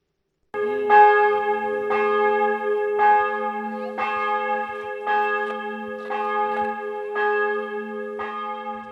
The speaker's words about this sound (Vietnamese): Tiếng chuông ngân vang khắp những ngọn đồi rậm rạp, cây cối phủ tuyết từ nhà thờ thế kỷ 14 ở thị trấn Schwabitgmund hùng vĩ.